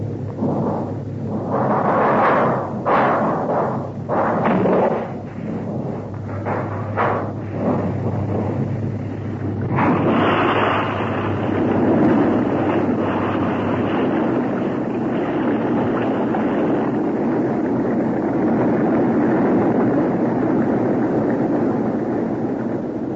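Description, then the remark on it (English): Heavy rumbling blasts hit in quick succession, then give way to a loud, continuous roar as a submarine shakes violently under pressure. No voices, just the booming, churning noise. “The boat was being shaken to pieces.”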